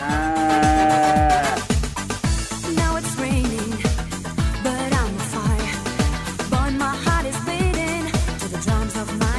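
Drawn-out cow moos sound loud, layered over a busy, steady rhythmic beat that keeps going for the full length, with no voices.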